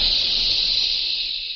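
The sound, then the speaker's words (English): A steady, sharp hiss of spraying moisture, like a pressurized jet, holding loud and even for under two seconds before easing slightly at the end. No voices. The jet of moisture stands for the moisturizing of the new Raleigh 903 cigarette. “That jet of fresh, pure moisture stands for new freshness, new taste in the new, all-new Raleigh 903 cigarette.”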